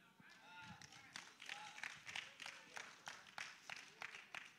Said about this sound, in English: And you know, and we're clapping, right?